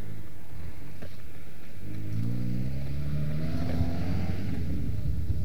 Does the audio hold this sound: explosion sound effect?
no